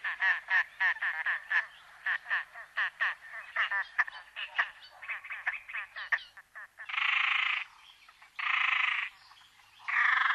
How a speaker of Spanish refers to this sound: El silencio nos deja escuchar el agua de la laguna, pero también nos enseñan a diferenciar el canto de algunas de las aves que han utilizado esta isla para anidar. Por ejemplo, así nos recibe el somormujo lavanco.